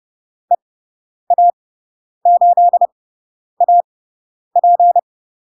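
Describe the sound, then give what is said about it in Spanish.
A steady, mid-pitched Morse code tone keys out short dots and longer dashes in five separate groups, spelling a Spanish radio callsign as a listening exercise. Clear and alone, with brief silences between characters. “Ya sabemos las letras, sabemos los números, ya podemos empezar a escuchar indicativos.”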